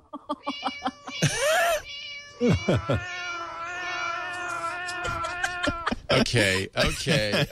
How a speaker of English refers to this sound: Ah, cats.